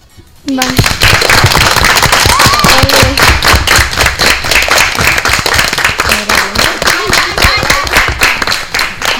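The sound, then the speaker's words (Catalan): A burst of dense audience applause in the multipurpose hall of Can Comamala starts abruptly and holds steady, many hands clapping in a rapid crackling patter, with a few voices faintly audible beneath it. “Doncs jo crec que ara aquest aplaudiment es pot sentir.”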